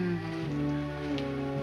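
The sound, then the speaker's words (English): A steady wash of rippling river water flows continuously at moderate volume, a soft, even babble with no voices over it. “There's just the sound of the rippling water.”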